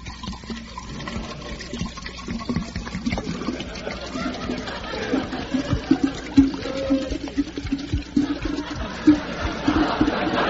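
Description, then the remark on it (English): A small shot of liquor gurgles steadily into a glass for around ten seconds, fairly loud, the pitch creeping upward as the glass fills. “Well, pour me out a small shot. Okay, say when.”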